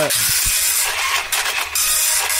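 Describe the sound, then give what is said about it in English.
An old, slow printer churns away printing the scores, a steady loud rasping whir with a few brief mechanical knocks and surges, and no voices. “It's got a slow, an old slow printer, print the scores.”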